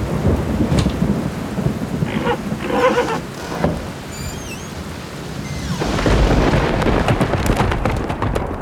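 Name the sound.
thunderstorm with heavy rain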